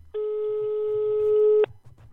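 A single steady electronic telephone ringing tone, heard while a phone call is being placed, holds for about a second and a half, a flat mid-pitched buzz with harmonics, then cuts off abruptly, leaving a faint low murmur.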